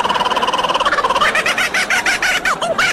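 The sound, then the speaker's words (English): A laughing kookaburra call, loud: rapid, steady chattering notes that build into rising, cackling hoots, continuous and with no talking. “That is the laughing kookaburra.”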